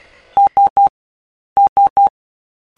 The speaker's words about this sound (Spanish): Una sucesión de letras S, tres puntos en el código Morse, fue la primera señal que Marconi recibió en Terranova, Canadá, a unos 3.400 kilómetros de Inglaterra.